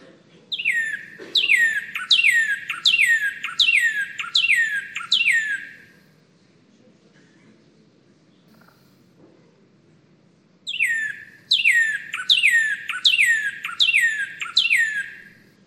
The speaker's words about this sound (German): Der Rotkardinal in Mexiko und Zentralamerika.